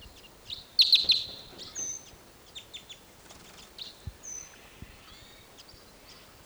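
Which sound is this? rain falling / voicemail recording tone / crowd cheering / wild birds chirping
wild birds chirping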